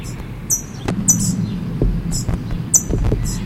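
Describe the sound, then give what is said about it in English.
A parent bird up in a tree gives sharp, high chip calls, about five or six short notes in irregular pairs, over a steady low rumble of background noise. “Parent's up in the tree chipping.”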